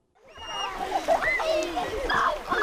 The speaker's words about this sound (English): In the mountains outside Nanwalik, about 70 kids are splashing around the cool blue water of Second Lake.